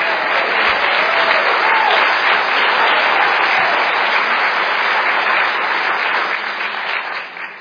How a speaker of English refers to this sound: a round of applause.